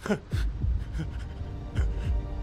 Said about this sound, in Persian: درسته، ضربان قلبه.